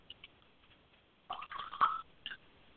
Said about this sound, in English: Next, we're going to pour libations. And we do this by pouring water from one vessel to another in a continuous fashion.